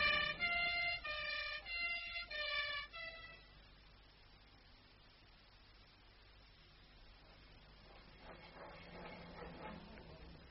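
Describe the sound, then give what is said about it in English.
An ambulance siren wails in a rapid two-tone pattern, its pitch alternating between high and low for a few seconds before it cuts out, leaving a low, steady background hum. “The ambulance is coming.”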